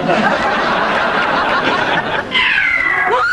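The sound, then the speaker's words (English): A couple of alley cats yowl loudly over a dense, noisy background, the cries rising into a drawn-out, wavering wail near the end. “That's just a couple of alley cats, Vivian.”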